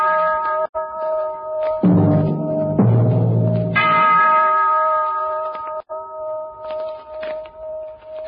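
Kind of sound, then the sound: sound effect, clock bell chiming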